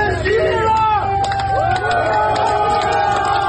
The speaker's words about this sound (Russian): «Вагнер – сила». Такими восклицаниями и аплодисментами провожали жители Ростова-на-Дону, уходящие из города колонны ЧВК «Вагнер».